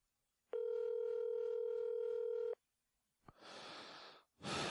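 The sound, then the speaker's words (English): A steady, buzzy two-second telephone ringback tone from an outgoing call made on air sounds once, clear, then stops, followed by a couple of rough bursts of breathy hiss. “Answer the phone, you son of a bitch.”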